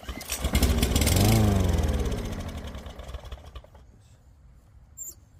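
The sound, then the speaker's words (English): A small lawn mower engine, primed with starting fluid sprayed into the carburetor and pull-started, sputters to life and quickly revs up to a loud, buzzing roar, then winds down and fades within a few seconds. No one speaks. “We see it started. It sounded okay.”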